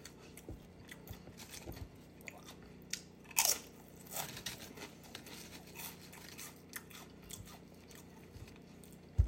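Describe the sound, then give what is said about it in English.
Crunchy chewing of pickles and chips, a steady run of crisp bites and crackling chews, with one sharp loud crunch standing out midway and another at the very end; no talking. “If they own the burger too, I need them on the side too for that extra crunch to go with my chips.”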